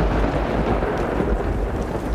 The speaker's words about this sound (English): Come in quickly. The acid rain's beginning to start.